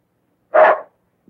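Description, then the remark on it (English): A small dog named Mutt gives a single short, sharp bark, fairly loud, as it walks out to a driveway and leaps into a man's arms, with silence around it and a faint brief tap just after. “A little dog walks outside and leaps into his arms.”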